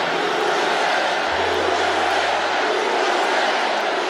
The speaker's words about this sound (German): aus dem Publikum USA-Sprechchöre. Wow, wow.